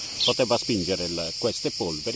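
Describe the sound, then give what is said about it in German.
A steady, high-pitched drone of cicadas buzzes continuously in a pine forest on a small hill in Sardinia, with a man's voice talking in the foreground over it. “Den besten Blick auf das Testgelände hat man von dem Pinienwald auf einem kleinen Hügel, wo der 51-Jährige gerade auf einer Steinbank den Zikaden lauscht und sich die x-te Zigarette anzündet.”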